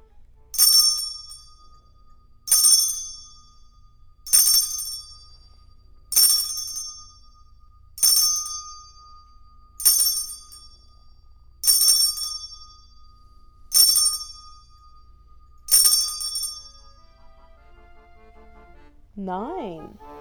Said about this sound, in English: you're up with the chime.